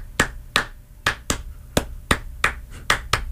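Sharp claps land together in a steady, repeating rhythm as the audience of a Brazilian talk show claps along in time while a Baile rapper freestyles. Each beat is crisp and fairly loud, with no voices over it.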